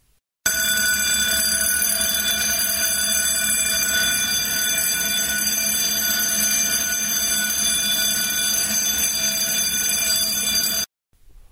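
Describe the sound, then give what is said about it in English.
A fire alarm bell rings loudly and without pause for about ten seconds, a harsh, steady metallic clang with no voices, cutting off abruptly; it went off one morning for no known reason and kept ringing for about an hour. “In fact, one of the issues we had was this morning, the fire alarm went off. We don't know why the fire alarm went off, but we actually have some audio of what it sounded like.”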